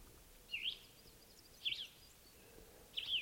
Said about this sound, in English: Got wild birds still here. Somewhere in the trees.